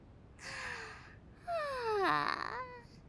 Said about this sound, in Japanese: はあ、ああすまん、あくびが出てしもうたわ。